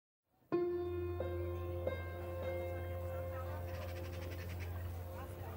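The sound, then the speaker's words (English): Bells from the many churches of Rome ring out in several resonant strikes that hang and overlap over a low hum, while birds chirp and twitter more and more busily as the sun rises, on 6 May 1527. “As the sun rises over Rome, birds sing and bells ring out from the city's many churches.”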